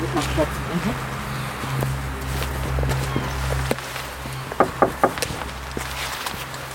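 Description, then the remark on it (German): Footsteps walk carefully at a steady pace toward an old half-timbered house over a low, constant hum, with a few louder, sharper steps toward the end. “Wir gehen vorsichtig in Richtung des Gebäudes.”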